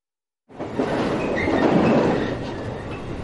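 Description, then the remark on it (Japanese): An electric train rumbles and rattles along the rails, swaying heavily, starting abruptly after a moment of silence and holding a steady, dense clatter throughout, with no voices. “電車が大きく揺れる。座っていても体がかしいだ。”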